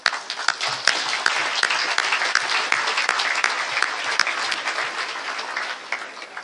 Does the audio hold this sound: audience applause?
yes